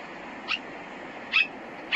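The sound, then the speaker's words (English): A person imitates a little miniature dog on a plane flight with three short, high-pitched yips spaced roughly a second apart, each brief and sharp, over a steady low background hiss. “That little dog's yipping.”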